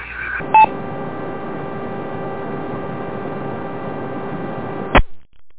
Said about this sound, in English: I'm sorry, I'm getting a lot of interference. I'm just not able to read.